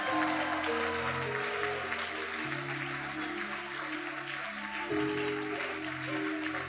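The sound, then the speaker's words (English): A church audience claps hands steadily for the whole stretch before a sermon, a dense, loud patter of applause over sustained keyboard chords that shift pitch every couple of seconds. “Clap your hands for the nearest God's favorite baby.”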